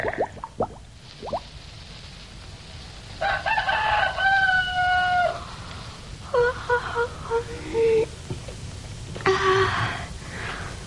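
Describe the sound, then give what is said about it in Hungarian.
A rooster crows three times in succession, each a long, clear, harmonic call, with short pauses between them over quiet outdoor background noise and a few faint clicks at the start. “De siessünk, nyár van, hamar virat, mintha már valahol kukorékolna is egy kakas.”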